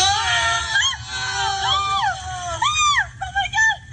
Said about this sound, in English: The screaming is caused by the fact that the woman who is talking through most of the commercial